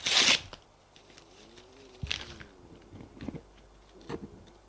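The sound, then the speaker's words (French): A sheet of paper that has just been written on is torn into four pieces: it rips sharply at the start, followed by three quieter, crackly tears spaced a second or so apart, with no voices. “Prit la feuille de papier qu'il venait d'écrire, la déchira en 4 morceaux”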